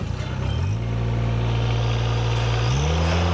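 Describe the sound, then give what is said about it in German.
A loud, steady engine drone with a low hum, shifting pitch slightly as it revs: a ride-on lawn mower mowing a sports pitch in straight lines; no voices. “Trotz Aufsitzmeer benötigt er noch über eine Stunde für das gesamte Spielfeld.”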